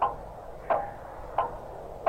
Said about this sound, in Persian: صدای موسیقی شاد بهاری ناگهان قطع شد و بالاخره صدای تیک تاک قبل سال تحویل پخش شد. اما نه، این صدا ریتم کندتری داشت، بوی مرگ میداد، نه نوعی.